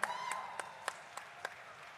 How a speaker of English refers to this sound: Then round of applause for that.